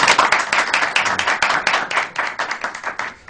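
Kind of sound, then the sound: crowd, applause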